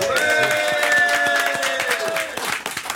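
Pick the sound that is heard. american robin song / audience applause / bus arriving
audience applause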